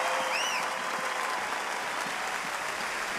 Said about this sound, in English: Dolly smiles and applauds in the audience.